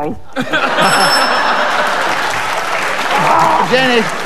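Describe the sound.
A quiz show contestant's buzzer, a brief, high electronic chime, sounds early on, cutting through steady applause and crowd noise while voices talk over the top.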